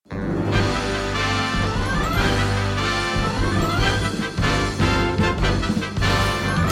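A short, loud instrumental jingle with a steady bass line and bright layered melody, playing continuously for several seconds with a brief dip partway through, no voices over it.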